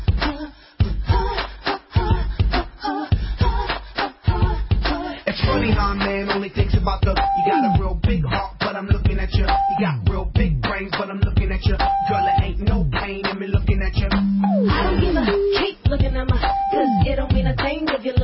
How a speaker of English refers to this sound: if more people had Tiger Woods' cell number, that's probably what it would sound like with all those beeps